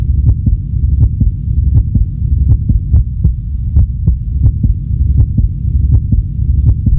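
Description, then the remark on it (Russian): A human heartbeat thumps steadily in paired lub-dub beats, deep and muffled over a constant low rumble, with no voices present. “Это человеческое сердце. Такое же бьется и в твоей груди. Прикоснись, послушай, как оно стучит.”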